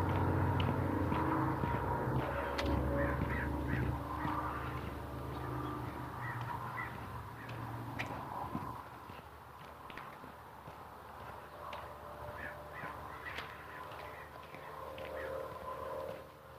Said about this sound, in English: There's a murder of about a dozen crows sitting on the peak of the retirement home over there.